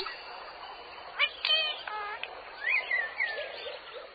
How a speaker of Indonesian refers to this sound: Alhamdulillah, dengan kedua mata, kita bisa melihat makhluk ciptaan Allah yang indah. Contohnya, seperti burung-burung yang berada di sini.